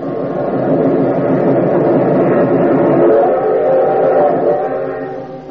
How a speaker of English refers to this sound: We're picking up speed. It's our only chance. We got to beat the train or run smack into it. You'll never make it. It's almost to the crossing.